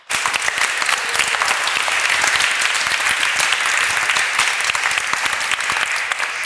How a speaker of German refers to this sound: Ein Applaus bitte.